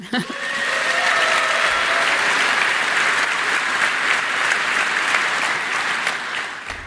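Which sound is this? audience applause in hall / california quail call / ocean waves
audience applause in hall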